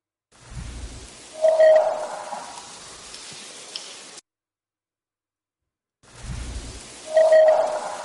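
Over steady hiss, a low thump gives way to a brief, eerie wailing tone that sounds like a howl, from a psychophony recording. After a silent gap, the same short passage plays again.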